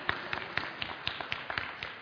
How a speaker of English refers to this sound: God bless you. Give her a clap.